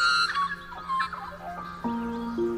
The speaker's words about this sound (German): dass das Flötenvögel sind.